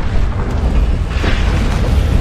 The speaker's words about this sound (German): Leos Blick fällt auf eine Maschine, die unter ohrenbetäubendem Lärm unablässig Dampf entweichen lässt.